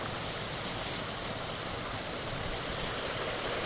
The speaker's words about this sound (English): And I can see another water, a little stream of water falling in from somewhere else. It's just water, gallons and thousands of gallons of water just draining off the land.